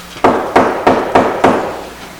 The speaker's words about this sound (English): I got to the college. I knocked on the door.